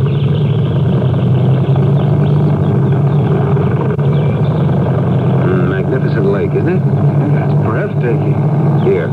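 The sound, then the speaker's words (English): The engine of a small 15-foot motorboat on a lake drones steadily and loudly throughout, a continuous low hum, with faint voices briefly audible beneath it. “I'll give you the wheel when we get out into the lake.”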